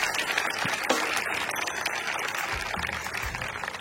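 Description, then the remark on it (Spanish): A crowd applauds steadily throughout, a dense wash of clapping hands that stays fairly even in loudness from start to finish, with no voices standing out. “Y un aplauso para este talento y muchas para esa gracias familia tan bonita.”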